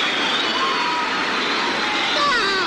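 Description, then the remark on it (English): Dense, steady applause from a crowd played on a gramophone record, holding at an even, fairly loud level for a few seconds with a faint tonal warble near the end. “Signals applause on gramophone record.”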